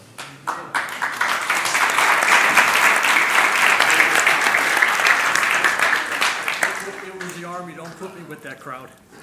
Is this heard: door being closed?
no